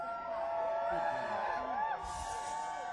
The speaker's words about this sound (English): Man. I thought this was the Whispering Beard Festival. All I hear is Beardo's yelling and screaming their ass off.